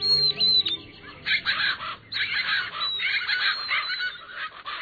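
A busy chorus of birds calling at once in winter in the lower Rio Grande Valley of Texas, where the Rio Grande borders Mexico, with honking, goose-like squawks and chirps overlapping continuously, fairly loud, with no voices.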